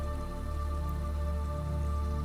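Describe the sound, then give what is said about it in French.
A small waterfall gushing from a rock splashes steadily, a dense, even wash of running water with a fine dripping texture, moderately loud and unbroken throughout, with no voices. “Une petite cascade qui jaillit joyeusement d'un rocher.”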